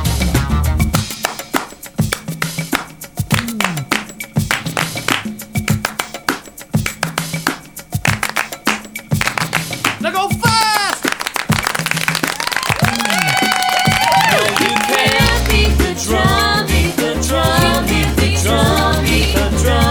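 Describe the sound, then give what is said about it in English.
Crisp hand claps beat out rhythmic patterns, sharp and loud, before giving way to busier tonal sounds, like voices and music, that fill the second half. “Try these clapping patterns.”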